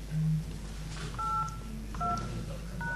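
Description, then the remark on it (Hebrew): Three short telephone keypad tones sound one after another, roughly a second apart, each a bright two-note dialing beep over a low, steady background hum, as the digits 1-9-5 are keyed into an automated phone menu. “ענייני שובבים, הקישו כעת 1-9-5.”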